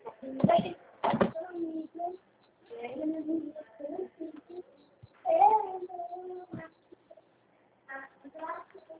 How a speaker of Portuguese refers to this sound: Olha, tá comendo o chão, tá chorando.